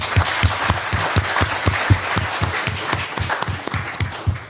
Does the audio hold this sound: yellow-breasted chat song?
no